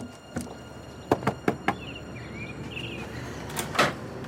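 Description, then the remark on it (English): Four quick, evenly spaced knocks on an apartment door ring out fairly loud, followed by a quieter stretch with faint chirping tones and a couple of soft thuds near the end. “Being we were familiar with this apartment, I didn't hesitate to knock on the door and ask, you know, if my brother was there.”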